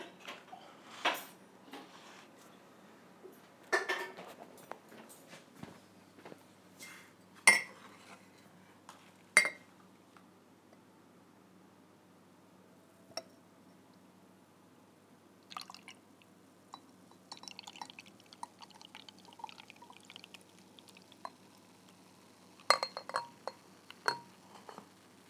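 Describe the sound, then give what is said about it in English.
Beer being poured into a glass by the speaker's mum: scattered sharp glassy clinks and small ticks, then a faint, steady fizzing trickle with occasional drips, all fairly quiet with no one talking. The beer is dark golden brown, very clear, with a little head. “And Mum's going to pour it.”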